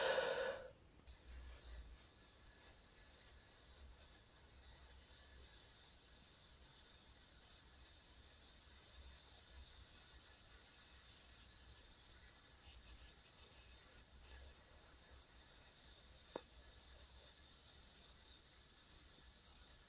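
A slow, steady hissing exhale pushed through the teeth with the mouth closed, done as a hiss exercise to strengthen the diaphragm: one long unbroken breath that holds an even, airy high-pitched hiss for nearly twenty seconds, with no talking.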